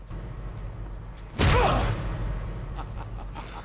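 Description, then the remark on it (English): A single heavy punch to the face lands with a sharp, loud thwack and a brief whooshing rush, standing out against a low, steady background rumble before fading quickly. “Nikki goes, and Peter punches Siler in the face hard.”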